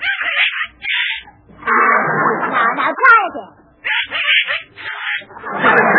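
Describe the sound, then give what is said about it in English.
A voice imitating a little duck named Herman trying to crow like a rooster: a few raspy, quacking squawks in bursts, loud and strained, with a brief spoken line in between. “The most important thing a rooster does is crow. Now, let Mama hear you crow, darling.”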